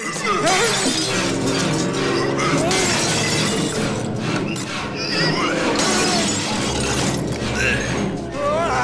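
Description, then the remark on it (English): A man's head is smashed through glass cabinets in a loud, continuous burst of crashing, with repeated sharp breaks and tinkling shards filling the whole stretch, and faint vocal sounds underneath. “Peyton's head is smashed through glass cabinets.”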